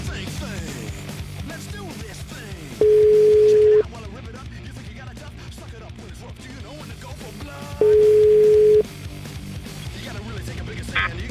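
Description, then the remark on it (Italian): A telephone line tone sounds as two steady, loud one-second beeps about five seconds apart, heard while someone calls back, with voices murmuring in the background. “Richiama subito, dai.”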